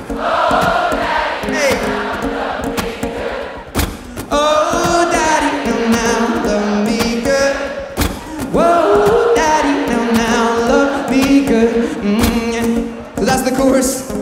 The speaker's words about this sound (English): So Glastonbury Festival, one more time, sing it as loud as you can and scream it out. It goes like this, sing out.